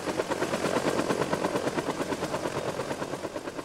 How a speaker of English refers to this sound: They would be the ones in the Huey, the ominous military chopper used in the Vietnam War. Noisy and clunky, my parents made their presence known.